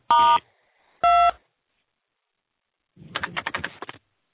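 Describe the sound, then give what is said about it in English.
Two telephone keypad tones, a star then a 2, pressed to use Movie Phone's speech-enabled system, each a short steady beep with a pause between, followed by a quick burst of rapid, rattling clicks. No one speaks. “To use our new speech-enabled system, press star 2.”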